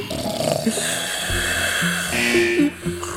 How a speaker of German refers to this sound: Da schnarchen.